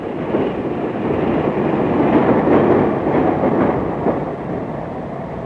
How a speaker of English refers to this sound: I'm on my way back to London on the night train.